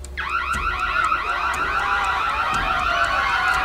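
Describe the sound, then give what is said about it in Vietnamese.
A loud electronic alarm sounds without pause, its rapidly warbling, rising-and-falling tones filling the whole stretch with no voices present. “Chuông báo động vang lên, mọi người bắt đầu lao vào các văn phòng và lớp học để trốn chạy.”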